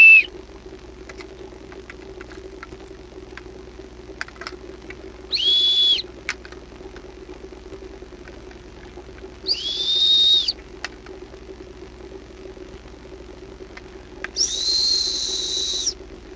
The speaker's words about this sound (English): So what was up with those four whistles? Well, yeah, I thought instead of just, you know, starting by talking about, like, frequency, I thought I'd give you a little demonstration. Now, think about the whistles I just played for you.